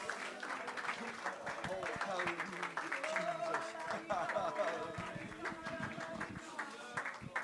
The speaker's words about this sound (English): Jesus, I want one more time if we can give him a hand clap tonight. A good hand clap of praise from the heart. He deserves our very best tonight.